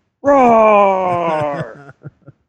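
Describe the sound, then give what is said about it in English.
A man's voice imitates a monster's roar, mimicking wrestler Braun Strowman yelling: one loud, drawn-out guttural bellow lasting about a second and a half, its pitch sagging slightly, followed by two or three short grunts. “Roar!”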